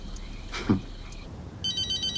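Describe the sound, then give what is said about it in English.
A mobile phone starts ringing partway through, a bright electronic ringtone with rapid pulsing beeps, steady, following a quiet stretch with a brief soft bump. “William turns to Cheryl as her phone rings.”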